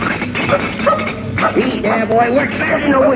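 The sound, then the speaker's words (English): A dog barks and yips excitedly in quick, repeated bursts, fairly loud, with a voice murmuring in the background. “You go upstairs and get that dog off your bed.”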